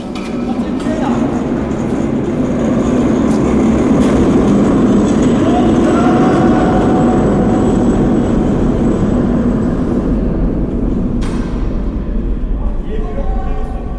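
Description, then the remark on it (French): A cart rumbles steadily along rails inside a tunnel of an abandoned metro station, a loud continuous rolling roar with rattling and squealing metal, shifting and thinning near the end. “C'est un chariot dans des rails dans une station métro abandonnée.”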